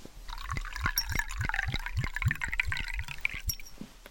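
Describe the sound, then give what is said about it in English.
Water pours steadily into a glass for a few seconds, a gurgling stream with a rhythmic glugging pulse as the glass fills, with no voices. “Here you are, Harry, a glass of water.”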